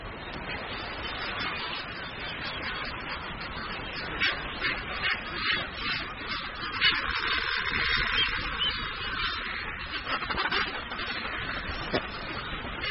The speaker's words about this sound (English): It's home to thousands of birds, and in the centre of the island, they jostle for the best available space. Nowhere else on the reef are they found in such numbers and such variety. Frigate birds, red-footed boobies and Caspian terns.